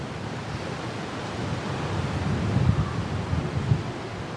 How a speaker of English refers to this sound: And... one more gust. There it goes. Perfect.